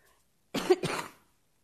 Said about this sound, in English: just in time, my coughing is starting, so I can...